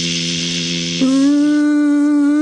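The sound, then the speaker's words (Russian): A flying mosquito's thin, steady buzzing whine, rich in overtones, abruptly jumping to a higher pitch about halfway through and then holding there. It is loud and continuous, with no voices. “Он звенит, зудит. Ну, в какой-то степени тоненько жужжит.”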